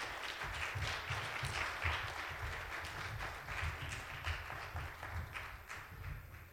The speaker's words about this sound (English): And the children have a cute little song for you today, so if you'd like to give them a hand clap as they come on up. Come on, kids.